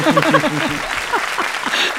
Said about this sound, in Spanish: Por favor, un aplauso para los dos. Nos encanta estos recibimientos.